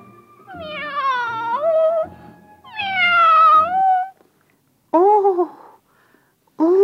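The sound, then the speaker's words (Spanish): A kitten meows plaintively four times as it approaches, long wavering cries followed by shorter ones, separated by brief pauses, fairly loud with no talking. “El gatito se acercó maullando lastimosamente.”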